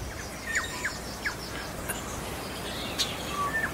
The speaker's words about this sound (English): We've got little sparrows chirping right over my shoulder here. The wind has died down.